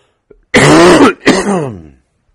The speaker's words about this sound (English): It's been going on for 2 weeks, you know, and I'm coughing so hard.